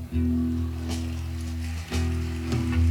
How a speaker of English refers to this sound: Oh, thank you. I notice everybody with memories are applauding. Oh, thanks for the memories.